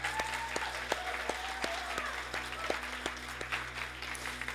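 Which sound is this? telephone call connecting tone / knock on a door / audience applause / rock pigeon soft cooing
audience applause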